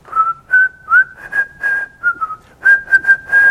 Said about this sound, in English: She whistled a lot better than I do. And I thought, there's that song.